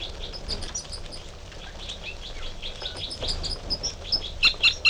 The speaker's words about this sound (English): And the male giving song phrases behind.